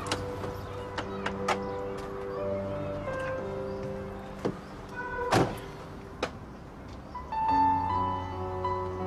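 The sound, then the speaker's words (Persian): Someone climbs into a car: scattered clicks and handling noises, then a firm door thud midway and a few lighter knocks, over a steady tonal hum. “بچه شما بریم، من میام. سوار شو تو ماشین.”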